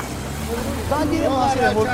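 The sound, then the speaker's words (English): A steady low rumble of road traffic on a single road from Nagorno-Karabakh into Armenia, with trucks, tractors and cars droning continuously as ethnic Armenians leave, some on foot, while indistinct voices talk over the noise. “The horizon is just trucks, tractors, cars, people on foot, flooding down this single road from Nagorno-Karabakh into Armenia proper.”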